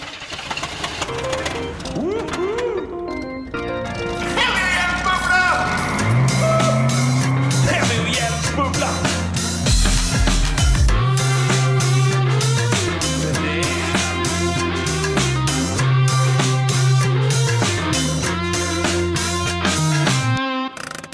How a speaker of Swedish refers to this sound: En skräpbra jingle idag, tycker jag.